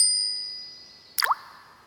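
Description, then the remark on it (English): A bright metallic ding rings out and slowly fades, then a quick watery plop with a falling pitch as a gold coin is tossed into a well. No voices. “One day, I tossed a gold coin into a well.”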